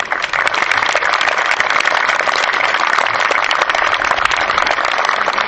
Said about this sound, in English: Ladies and gentlemen, I'd like to ask for a round of applause for the commander of the Stedman Keenan American Legion Post